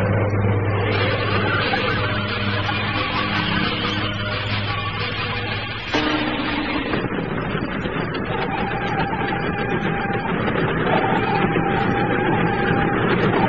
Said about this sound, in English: The train's stopping.